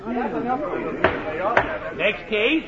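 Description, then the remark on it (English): A door at a crowded reform school closes behind a boy with two sharp, loud knocks, the second following about half a second after the first, over a steady murmur of overlapping crowd chatter. “They moved the kid out of the courtroom and into the crowded reform school and closed the door behind him.”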